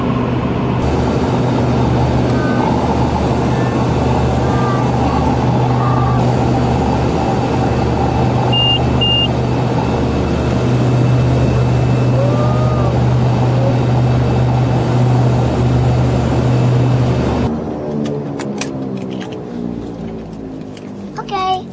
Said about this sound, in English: Stay in your seat. Like this airplane?